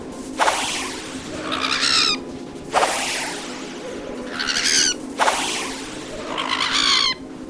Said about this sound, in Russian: Птицы нападают на нас. Медные перья свищут, как стрелы.